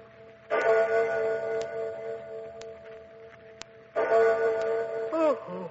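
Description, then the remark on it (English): A clock bell in a haunted old castle strikes three at 3 o'clock in the morning in slow, resonant strokes, each loud chime ringing out with a long humming decay before the next one sounds. “It's 3 o'clock in the morning.”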